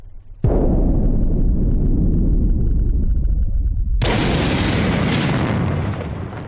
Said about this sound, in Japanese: まただ、警報なしの空襲だ。